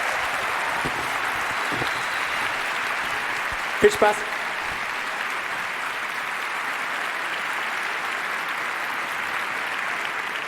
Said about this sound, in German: Und beim 36C3 geht es mit dieser Zugfahrt weiter. Bitte begrüßt mit einem Riesenapplaus